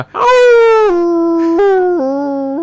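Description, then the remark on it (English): A person lets out a loud, drawn-out wolf-like howl lasting a couple of seconds, holding a steady wavering tone that steps down in pitch in stages, with no talking. “The fact that you can't say howling, howl.”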